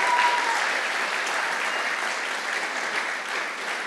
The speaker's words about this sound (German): Lass uns den drei Paaren nochmal einen riesen Applaus geben. Wir lieben es so sehr.